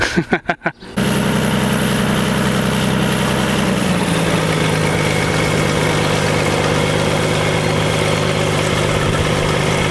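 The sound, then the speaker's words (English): A seaplane engine idles with a loud, steady droning rumble after a few brief sputtering pulses at the start; its pitch drops slightly partway through, with no talking. “The pilot has just come back now, the plane is just there.”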